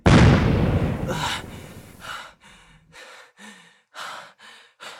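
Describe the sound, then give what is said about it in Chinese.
A jade boot explodes in a loud burst at the start that rumbles away over a couple of seconds, followed by a series of short, breathy gasps and pants. “没想到吧，我的青玉靴可以爆炸，玉石在最后救了我一下。”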